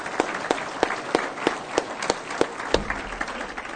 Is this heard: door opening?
no